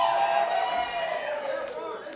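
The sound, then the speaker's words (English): An audience cheers and whoops on a Thursday, many voices overlapping in a steady, lively roar that stays loud for the whole two seconds before easing off slightly at the end. “Y'all are pretty lively for Thursday.”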